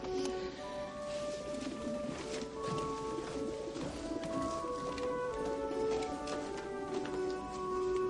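birds cooing

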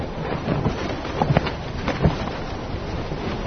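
strong wind blowing

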